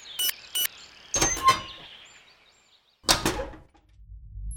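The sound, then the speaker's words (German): Two quick clicks as a number code is entered into the lock, then the metal hatch of a time machine grinds and creaks open in two harsh, rasping bursts, trailing off into a low rumble. No one speaks. “Maxi gibt einen Zahlencode in das Schloss ein und die Luke öffnet sich quietschend.”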